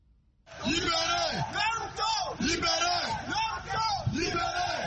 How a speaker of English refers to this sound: Hundreds of supporters are shouting Saturday at the Yaoundé city center, demanding the immediate and unconditional release of opposition leader Maurice Kamto and all those who were arrested with him in January 28